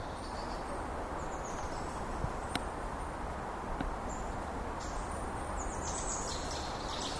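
Steady outdoor ambience in a small forest in central Germany at the end of summer, with many still-green trees: a broad, even hiss of background noise, faint high bird or insect chirps drifting above, and a couple of sharp clicks or snaps along the way.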